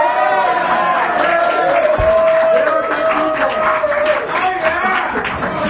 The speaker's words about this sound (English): It's super cool how the audio illusion of cheering makes it sound like there's more than 10 people in the audience right now. Okay, 12. People are yelling at us while we're recording.